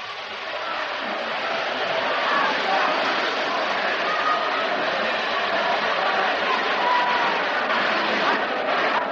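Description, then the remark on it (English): A steady, dense roar of a large baseball stadium crowd in New York watching the Tigers' last appearance there, a continuous wash of many overlapping voices and murmurs holding at an even, fairly loud level throughout with no single voice standing out. “Another big crowd here at the stadium, watching the last appearance of the Tigers here in New York.”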